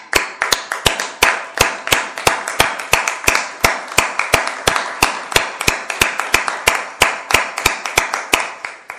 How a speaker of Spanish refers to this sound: Y desde aquí uso en parte de mi espacio para poder aplaudirles a ustedes.